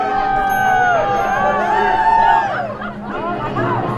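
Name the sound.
parade crowd cheering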